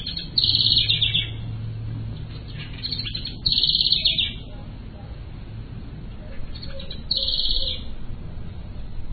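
A bird gives three high, shrill bursts of calling a few seconds apart, each lasting about a second, over a steady low background rumble.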